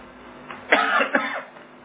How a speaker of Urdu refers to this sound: یہ کھانسی سگنل ہے کہ بس کر.